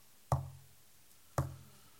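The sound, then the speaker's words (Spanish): Two solid knocks, about a second apart, like knuckles rapping on a wooden door, each with a short resonant thud and brief decay, against a quiet background. “Él toca la puerta de los corazones de todos los seres humanos.”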